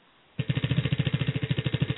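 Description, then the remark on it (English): A prize wheel spins with a rapid, steady train of sharp clicks that starts abruptly and continues evenly, loud and alone, with no voices. “Let's spin the wheel and see what you win.”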